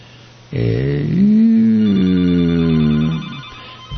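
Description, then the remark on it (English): A single telephone ring at the radio station Free Radio Santa Cruz, a steady buzzing tone of nearly three seconds that starts abruptly and fades out. It is loud, with no one talking over it. “We got the phones are ringing off the hook.”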